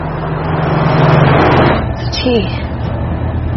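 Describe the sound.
A truck rolls along the road with a steady low engine drone and a broad wash of road noise. A brief voice cuts in near the end.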